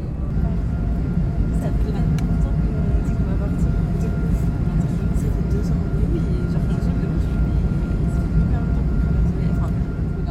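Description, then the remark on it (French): A steady, loud low roar of an airplane taking off, heard as constant rumbling engine noise for the whole stretch, with faint indistinct voices beneath it. “Dans le dernier épisode, on vous expliquait notre projet et on vous quittait alors que notre avion décollait.”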